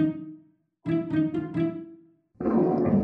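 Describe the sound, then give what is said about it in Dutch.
A tiger growls inside a closet: a low drawn-out rumble, then a throbbing, pulsing stretch, and after a brief pause a rougher, harsher snarl. No one talks. “Er gromt iets in de kast.”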